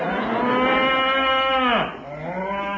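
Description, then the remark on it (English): A cow moos loudly, one long harmonic bellow that dips in pitch near the end, followed by a shorter second moo, with no voices. “Real cowhide. Made a bit of a noise. Well, it's still on the cow.”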